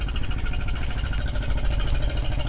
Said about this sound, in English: There's a boat going by here.